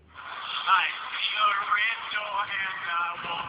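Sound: music playing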